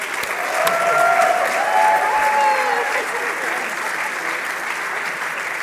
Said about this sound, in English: They have all done an amazing job and deserve a big round of applause.